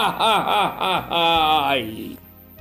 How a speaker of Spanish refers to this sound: llorando, le dice a su abuelo